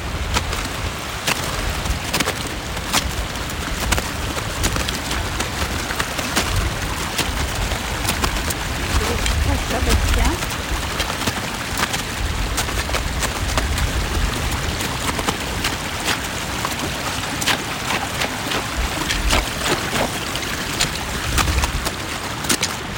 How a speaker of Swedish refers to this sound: Här kommer en liten bäck med smältvatten som rinner ovanpå glaciären. Och det blir en djup blå nyans nästan. Där vattnet pålar fram. Som vilken bäck som helst.